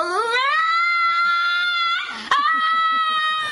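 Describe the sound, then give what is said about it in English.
A dog lets out a long, loud howl that rises in pitch and holds steady, sounding eerily like a woman wailing, with a brief catch partway through before the cry continues. “Or maybe your dog sounds something like a woman wailing.”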